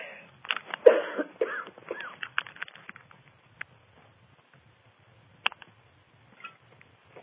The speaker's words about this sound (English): And so you may hear me coughing and wheezing a bit because I have been exposed not to past density, but to life outside the cosmos, where there is stagnant patterns of the past, which is another form of density. So excuse me while I cough.